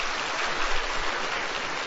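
A crowd claps steadily for about two seconds, a dense, crackling wash of many hands with no single claps standing out and no voices on top, welcoming a pastor invited up to give a lecture.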